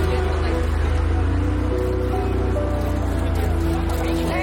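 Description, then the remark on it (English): A car drives away, its engine a steady, low rumble that stays fairly loud and even from start to finish, with a dense wash of road noise around it. “He drives away as Nikki stands dumbfounded.”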